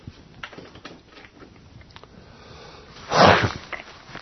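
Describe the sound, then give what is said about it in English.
A single loud throat clear from a congested speaker bursts out about three seconds in, after a stretch of faint clicks and breathy rustling, with no talking. “I have to forgive my clearing my throat a few times.”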